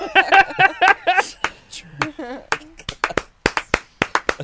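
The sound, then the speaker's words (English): A raised voice is followed by a burst of loud, sharp hand claps made to drown out a woman who is talking, in a quick, uneven series that keeps going to the end, with a brief stretch of talking mixed in among them. “Drown her out with the claps.”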